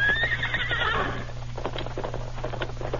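A horse carrying a double load gives a high, wavering neigh for about a second, then hooves clop in an irregular rhythm over a steady low hum.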